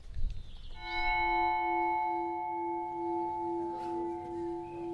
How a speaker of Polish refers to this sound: Byliśmy wczoraj, dokładnie zwiedzaliśmy kościół. Nie widzieliśmy tylko tego, co jest pod ziemią, bo pod ziemią w każdym kościele gotyckim coś się kryje, coś jest, za to weszliśmy na dzwonnicę, posłuchajmy jak dzwonią tuczyńskie dzwony.